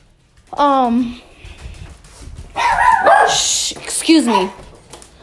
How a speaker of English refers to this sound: Excuse me. Those are the dogs.